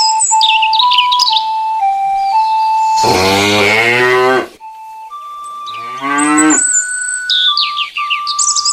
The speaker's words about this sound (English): How'd that cow get in here? Well, don't look at me. It looks upset.